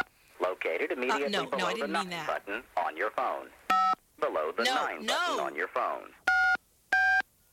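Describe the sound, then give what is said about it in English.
A voice talks, then three short touch-tone phone keypad beeps sound as the digits of a 3-digit code are entered into an automated phone system, each a clear, steady dual-pitched tone. The first comes mid-speech and the last two follow close together after the talking stops. “I'm sorry, you've entered the wrong digits. Please re-enter the correct 3-digit code.”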